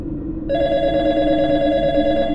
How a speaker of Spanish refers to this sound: Esa intranquila quietud se rompió la segunda vez en que sonó el teléfono. Esperé antes de contestar.